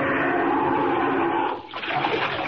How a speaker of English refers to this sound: Down, down, right into the water.